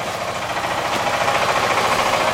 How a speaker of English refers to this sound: So we're inside this little shack and there's a small group of people and they're pouring bags of rice into this really old looking machine that has these crazy belts on it, and it's so loud in this small room, and they're milling rice.